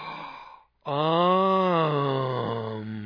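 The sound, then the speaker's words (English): A voice imitates a fourth-grade schoolgirl's shocked gasp: a quick breathy intake, a brief pause, then a long, loud, drawn-out moaning 'ohh' that trails off, with no other talk. “I guess I was so shocking when I was in school that I just shocked the girls, and especially Judy Hartson, because she would gasp and...”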